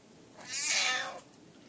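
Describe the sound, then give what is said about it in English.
A cat at a closed door lets out one drawn-out, plaintive meow, wanting to go outside at night; fairly loud, rising and then fading, with no talking. “You can't go out there at night. What if that one cat's out there?”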